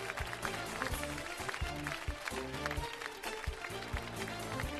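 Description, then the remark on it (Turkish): Steady applause for the new national football team jerseys, with many hands clapping in a dense, continuous patter for about five seconds, fairly loud, with a low murmur of voices underneath. “Yeni formalarımızı alkışlıyoruz.”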